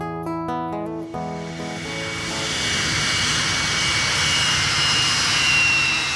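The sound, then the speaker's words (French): A steady, loud roar of a jet airplane engine in flight on a long trip from France to the United States swells up over the first seconds, replacing a few fading musical notes at the start, then holds as a broad continuous rumble. “Après un très long voyage en avion, entre la France et les États-Unis d'Amérique,”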